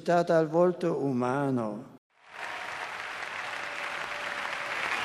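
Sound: crowd applause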